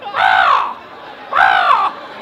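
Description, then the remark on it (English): A person imitates a crow's caw, giving two loud, harsh, drawn-out calls, each about half a second long, separated by a short pause, with no other talking. “A solid crow sound.”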